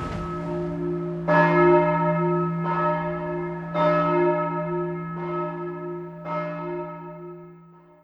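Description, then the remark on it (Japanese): A large bell tolls repeatedly at a slow, steady pace, each strike ringing out with a long, resonant hum that lingers into the next. No voices accompany it. “鐘が鳴ってますね。”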